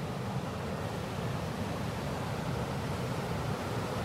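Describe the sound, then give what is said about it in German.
Water cascading down the steps of a fish ladder makes a steady, dense rushing roar, unbroken, with a heavy low rumble and no voices over it. “Und da drüben ist eine Fischleiter, kennen Sie das? Wo das Wasser in Stufen runterfließt und wo die Fische dann, wenn sie flussaufwärts wollen, hochspringen.”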